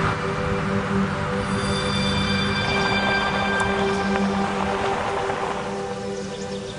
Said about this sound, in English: Nearby, a stream flows gently over mossy rocks. He rinses his face in the water.